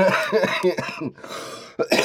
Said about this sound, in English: Sorry, I'm coughing because, like, it's a lot to take that you don't even know, man.